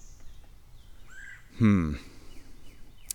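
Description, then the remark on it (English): A single harsh, rolling squawk from a red-bellied woodpecker perched above rings out loud, about half a second long, with faint thin whistles and outdoor ambience around it. “I do hear a squeaky bird. Squawky. I think it's one of my red bellies.”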